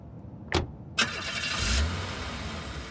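A car engine cranks over with two sharp starter bursts, then catches and settles into a steady rumbling idle, moderately loud, with no voices.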